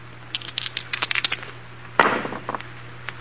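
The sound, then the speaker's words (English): Dice rattle in a quick burst of small clicks, then a sharp clatter as they're thrown, followed by a few lighter taps as they tumble to a stop over a low steady hum. “Roll the dice.”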